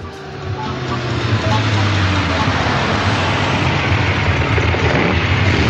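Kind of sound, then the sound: vehicle, car engine revving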